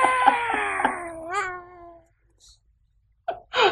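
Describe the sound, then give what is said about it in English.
A cat lets out a long, drawn-out meow, loud and wavering in pitch before trailing off, followed by a pause and a couple of short, noisy bursts. “You should have said, Luke, you should meow”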